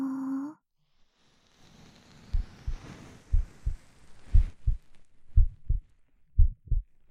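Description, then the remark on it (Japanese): A mother's steady heartbeat, heard with an ear pressed against her chest, thumps low, paired lub-dub beats repeating in an even rhythm over a soft whooshing hiss, preceded by a brief tonal chime. “ママの心臓の音する？”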